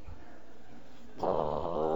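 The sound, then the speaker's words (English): A voice mimics the 32-foot pedal stop of the new MLC organ with a low, buzzy, rumbling growl. It starts abruptly after a quiet stretch and holds steady and loud until the end. “And actually, the 32-foot stop doesn't sound like a note as much as it sounds like a growl.”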